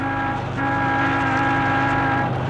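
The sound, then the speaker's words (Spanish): A taxi's horn blares loudly and insistently as it speeds through city streets, a brief honk followed by a long sustained blast, over a low rumble of engine and traffic noise. “Para que los demás automóviles le franqueen el paso y los peatones no se le atraviesen en el camino, el conductor hace sonar la bocina incesantemente.”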